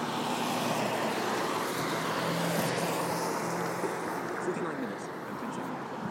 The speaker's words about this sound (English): I can hear the roads very wet.